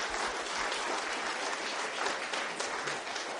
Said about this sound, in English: So can we give her a little round of applause for her brilliance, please?